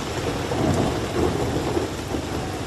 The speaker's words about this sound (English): The sound of thunder has taken over the London skyline as tourists in London's Camden neighbourhood ran for shelter as rain poured down. The storm comes after a summer of unusually warm and sunny weather in England and its capital.